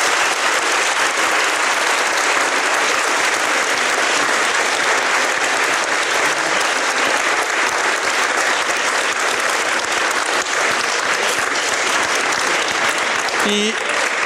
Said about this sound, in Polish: Szanowni Państwo, w tej gorącej dyskusji dopłynęliśmy do brzegu. Proszę o brawa dla uczestników naszej debaty.